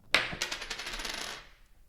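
coin tossed and landing

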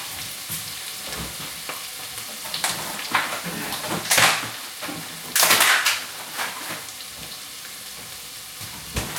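onions frying

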